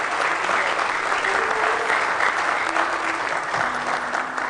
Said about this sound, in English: Let's give the Lord a hand clap of praise today.